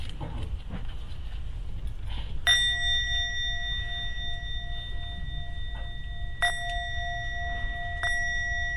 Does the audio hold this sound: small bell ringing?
yes